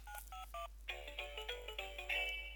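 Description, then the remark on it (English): Electronic quiz contestant buzzer sounds: three short, clipped beeps followed by a quick run of bright, warbling electronic tones, fairly loud and alone with no talking, as contestants buzz in to give their answer. “with their individual buzzers and give their answer”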